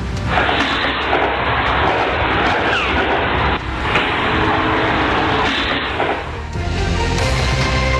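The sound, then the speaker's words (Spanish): A dense, sustained barrage of gunfire in a shootout, recorded by home surveillance cameras, with one bullet passing centimetres from the device. Neighbours say the shots came from an apartment block. The shots blur into a harsh, distorted roar of low-fidelity noise with brief dips, and no voices are heard. “Son 6 segundos de disparos, pero nosotros lo cortamos porque claramente son mucho más los segundos que tiene que ver con esta balacera.”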